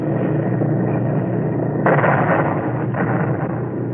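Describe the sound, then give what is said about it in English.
A heavy, steady droning roar of bomber aircraft engines, broken about halfway by a sudden explosive blast as the bomber is hit and its number 3 engine knocked out, then a second, smaller burst a moment later. “We're hit, Major Hawes. We're hit. Yes, they must have gotten one of our engines.”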